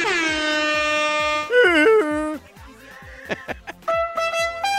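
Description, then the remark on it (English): Loud air horns blast in a long sustained honk, then warbling pitch-bending blares, followed by quick sharp hits and a final burst of horns over a steady thumping beat, played as a celebration ahead of the Heat–Lakers game. “Give me the air horns.”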